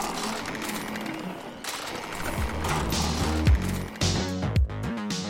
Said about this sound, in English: At first glance, it almost looks human. But as you listen on, like you can hear these like whirring noises. It also seems to be a Warforged robot.